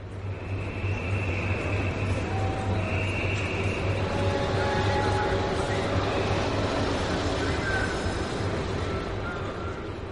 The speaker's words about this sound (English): At 10:30, the train arrived in Calais. And I drove my car off the train and onto the road.